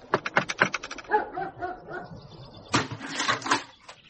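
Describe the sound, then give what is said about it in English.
A dog named Mott gives a quick run of sharp barks, then lets out high, wavering whimpers and whines before breaking into another burst of excited barking and yelps. “This is Mott, I'm assuming. Yes, sir. He's been a good dog.”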